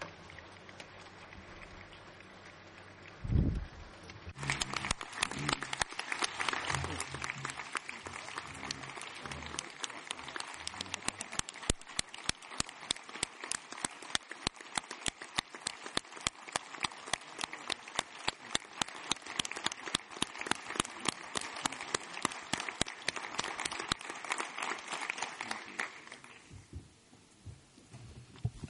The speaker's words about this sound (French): S'il vous plaît, applaudissez Rod.